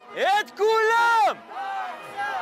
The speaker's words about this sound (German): Sofort antwortet die Menge.